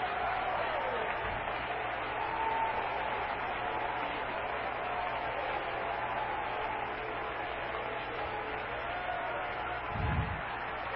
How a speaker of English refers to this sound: And I've got a right. Let's give the Lord another hand clap of praise.